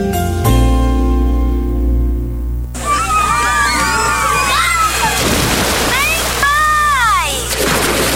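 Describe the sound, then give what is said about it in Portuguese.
Water splashes and sloshes steadily while excited people shout and shriek at Áureas Parque, a water park with a wave pool, artificial beach and waterslides, opening with a brief low droning tone. “Vem aí um mega parque aquático com piscina de ondas, praia artificial, toboáguas e muito mais.”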